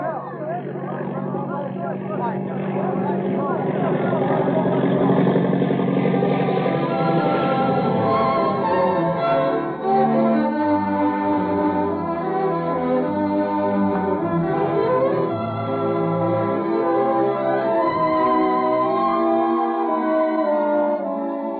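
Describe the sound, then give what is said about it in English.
A steady, droning airplane engine hums throughout as the plane flies low by itself on an early Sperry gyro pilot, with no hands on the controls, its layered tones wavering slightly in pitch while staying loud and continuous. “Why, the plane's flying by itself.”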